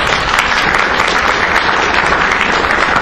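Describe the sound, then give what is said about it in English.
An audience claps steadily for three seconds in thanks for work on the baseball products Pitch FX, Hit FX and Field FX, a dense, even wash of many hands with no pauses and no voices rising above it. “Yes, now you can clap.”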